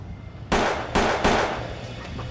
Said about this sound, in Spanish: Uno disparó tres veces y salieron huyendo. Los disparos se oyeron en todo el vecindario.